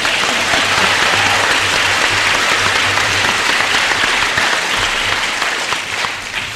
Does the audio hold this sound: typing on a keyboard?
no